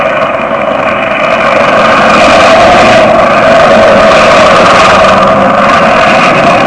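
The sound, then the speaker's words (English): The engine of a circus stunt plane, the Wingwalker ship, drones loudly and steadily for several seconds as it comes in to land at a field at night under clear skies, a rough, buzzing roar with a constant pitch and no voices over it. “That is the other circus plane, Jack. The Wingwalker ship.”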